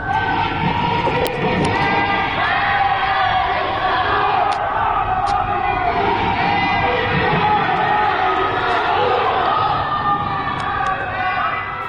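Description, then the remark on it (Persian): Many voices chant slogans together from the windows of buildings in Ekbatan township, a loud, steady wall of shouting that rises and falls without pause, with a few sharp cracks cutting through now and then. “پنجره هایی که از آنها صدای شعار می آید.”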